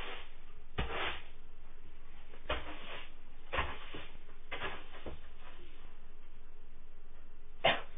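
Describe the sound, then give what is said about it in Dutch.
A person coughs in several short, harsh bursts spaced irregularly over a few seconds, with no talking in between. “Oh, jezus, ik moet even hoesten elke keer.”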